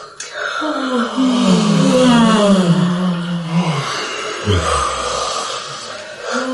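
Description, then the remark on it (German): A single long, drawn-out yawn, the second of three in a row during a seated relaxation exercise, voiced and slowly falling in pitch like a groan, fading into a breathy exhale near the end. Fairly loud, with no talking. “Und ein zweites Mal gähnen.”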